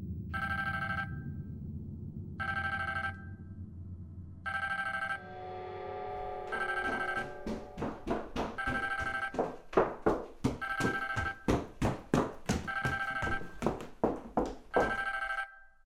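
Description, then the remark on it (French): A telephone, found under a cushion in the living room, rings in evenly spaced, bright tonal bursts over a low rumble, then the ringing turns into a quicker, denser run of loud pulsing trills that continues to the end. No one speaks. “Je cherchais mon téléphone.”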